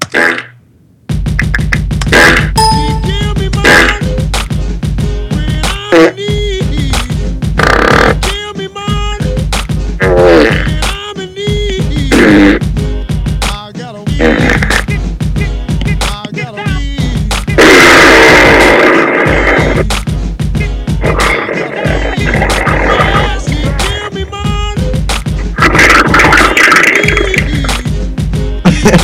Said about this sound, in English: Some fart sounds? How many fart sounds? Okay, so here's this one.